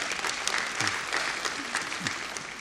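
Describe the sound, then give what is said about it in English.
A soft, polite golf clap from an audience: a steady patter of many light hand claps at an even, fairly low volume, with faint murmurs of voices underneath. “The golf clap was nice.”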